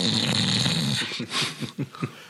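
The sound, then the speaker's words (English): A 15-year-old Scottish Terrier snores right next to the listener, a long raspy rumbling breath followed by several short snuffling snorts in quick succession, with no talking. “I have a dog snoring right next to me. Hope it ends up on the podcast. Hope you can hear a 15-year-old Scottish Terrier.”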